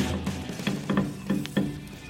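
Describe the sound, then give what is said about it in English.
Fireworks at a firework display recorded on a phone: a steady crackle and fizz punctuated by four or five soft, muffled bangs in an irregular rhythm, thin and fairly quiet, with no voices. “It's from a firework display the other day.”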